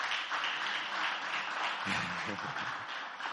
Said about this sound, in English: Anyone, you're here for the first time? Okay, give a big hand clap.